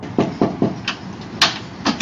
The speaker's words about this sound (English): A knock on the door.